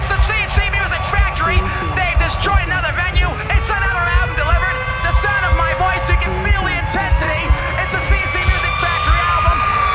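A siren wails with slow, gliding rises and falls that carry through the whole stretch, set against a busy backdrop of crowd babble and repeated dull thumps.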